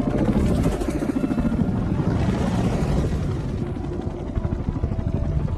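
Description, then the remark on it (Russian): A helicopter approaching to land on the Deepwater Horizon, a semi-submersible oil drilling platform 65 km off the Louisiana coast. Its rotor thumps in a steady, heavy chop over a loud low engine roar, sustained and strong throughout with no voices. “Подлетают на посадку к платформе.”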